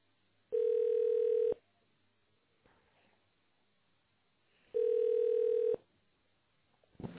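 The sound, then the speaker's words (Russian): A telephone ringback tone on a call to the company GTS Skladskie Sistemy, waiting for an operator to answer, sounds twice: two steady, mid-pitched beeps about a second long each, separated by roughly three seconds of near silence. “Если вам известен внутренний номер сотрудника, наберите его сейчас. Или дождитесь ответа оператора.”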